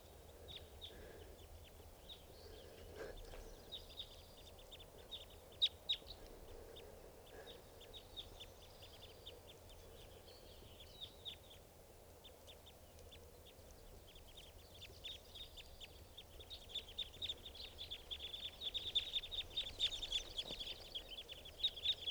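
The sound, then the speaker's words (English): A flock of about 10 or 12 type two crossbills, perched at the top of a tall Douglas fir by a camp, calls continuously with many short, high chips and twitters that overlap, growing busier and louder toward the end. No one speaks. “Sound like type twos must be about 10 or 12 birds.”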